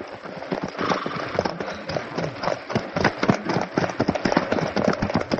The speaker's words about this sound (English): So quickly, another wagon is found and the horses harnessed. And here they are, Moishka with the reins and Reb Meir holding on to his hat on the way to Lipowitz.